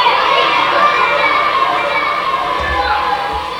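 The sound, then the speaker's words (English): A large crowd of hungry children cheering and shouting together as corn and grain arrive at a refugee center, a loud, continuous wall of excited voices that stays dense for the whole stretch. “Hungry children cheer when corn and grain arrive at the refugee center.”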